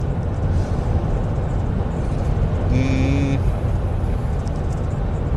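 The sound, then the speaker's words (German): Steady road traffic rumbles, a dense low-frequency roar of passing vehicles, with a brief horn-like tone sounding for about half a second midway through. “Entschuldigung, ich war gerade vom Verkehr ein bisschen abgelenkt.”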